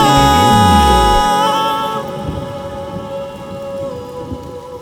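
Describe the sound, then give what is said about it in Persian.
Steady rain patters continuously, with a deep rumble of thunder at the start. Sustained tones hum underneath, and no one speaks. “هوا بارونیه”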